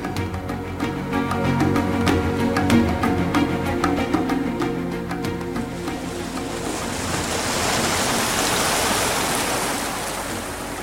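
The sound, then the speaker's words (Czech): Adriatic Sea water washes steadily against the shore of the Bay of Kotor, its broad hiss of surf swelling louder in the later seconds. A droning, tonal hum with faint clicks sits beneath the water early on. No one speaks. “A nyní jsem tu opět, v Bose Kotorské, na břehu Jaderského moře, u největšího přírodního zálivu”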